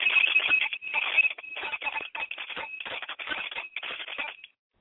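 A bell is rung to wake and call on the ancestors, rapidly and continuously in a series of jangling bursts, its bright, high ringing tone sustained over clattering strikes for about four and a half seconds before stopping.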